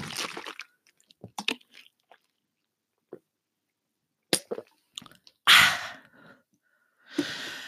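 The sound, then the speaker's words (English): Close-miked sounds of drinking water during a break: wet sips, gulps and swallows in scattered bursts, with a loud breathy exhale or gasp after drinking and quiet pauses between. No one speaks. “You know, anyway, I'm just gonna have a water break, so have fun with some water ASMR.”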